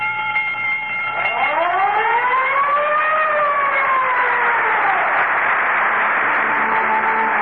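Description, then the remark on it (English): The Texaco siren-and-bell sign-off signature on an NBC radio broadcast: a loud siren wails, sweeping up in pitch and then gliding back down over a steady ringing tone, filling the whole stretch with no voices present. “As I say goodnight, remember, whenever you hear the siren and bell, think of Texaco.”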